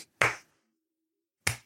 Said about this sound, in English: No, that sounds like a hopeful slow clap. All right. No, you sound like you're clapping along with a song that no one can hear.